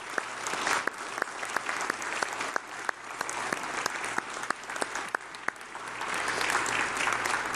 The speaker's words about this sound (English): And let's give the Lord a round of applause for the music that He sends in our hearts.